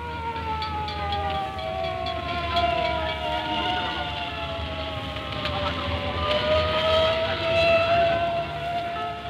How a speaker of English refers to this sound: A fire engine rushes away on its urgent business.